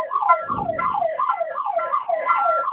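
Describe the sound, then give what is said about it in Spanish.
A security alarm siren, triggered in the kitchen zone and impossible to silence from the keypad, wails steadily, its loud electronic tone warbling up and down in quick, repeating sweeps, with a brief low rumble early on and no talking. “No nos permite silenciar el alarma.”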